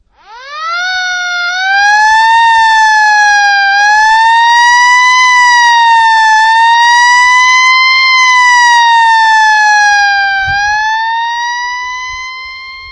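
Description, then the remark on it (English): A loud fire engine siren wails steadily on its own, its pitch gliding gently up and down for several seconds before tapering off slightly at the end. “So I just want us to put a fire thingy there. You can click it.”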